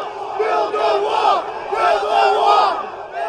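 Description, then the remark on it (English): A large crowd of anti-Trump protesters and Trump supporters, held behind barricades outside a Trump rally venue that had reached capacity, shouts in loud, overlapping bursts, voices rising and falling together like chanting, with a steady roar of many people and no single voice standing out. “As the venue reached capacity and Trump supporters were turned away, many congregated on the opposite side of the barricades that held the anti-Trump protesters. The crowd swelled.”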